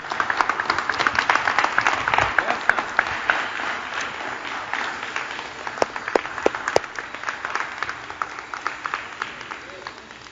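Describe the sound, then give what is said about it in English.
A church audience claps for the Lord during a sermon, steadily for about ten seconds, a dense crackle of many hands with sharp individual claps poking through, gradually thinning toward the end, with faint voices mixed in. “I hope I shared the word better than you clapping your hands right now.”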